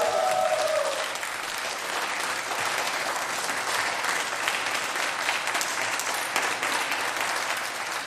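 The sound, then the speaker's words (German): A live audience in Bad Nauheim applauds steadily at the end of the Bunte Grütze show for about eight seconds, a dense, even wash of clapping; a brief tonal sound fades out in the first second. “Ich wollte jetzt einfach nochmal diesen tollen Applaus hier hören, weil das hat richtig Spaß gemacht.”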